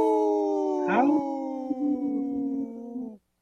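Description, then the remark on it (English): Three human voices imitate wolf howls together, holding long, steady tones in rough three-way harmony, with one voice swooping upward near the start, for about three seconds before cutting off abruptly. “Wow, that was a good howl. Kind of three-way harmony.”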